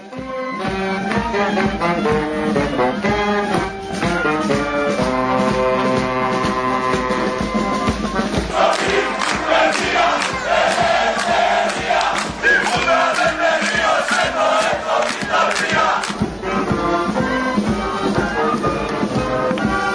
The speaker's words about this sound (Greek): Και αυτή είναι η μπάντα του Δήμου της Πάτρας, στην παρέλαση που το γύρισε. Είπε το σώπα που να είναι, θα σημάνουν οι καμπάνες, ενώ φώναζε ο κόσμος συνθήματα και χειροκροτούσαν όλοι δίπλα.